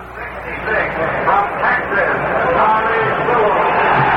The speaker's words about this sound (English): We come back on the air here, direct from Briggs Stadium, with the roar in the background of this crowd of over 56,000